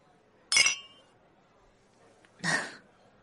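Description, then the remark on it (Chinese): Glasses clink together in a toast over a shared meal, two bright, ringing taps about two seconds apart, clear against a quiet background. “嗯，那一起吃点东西吧。干杯！”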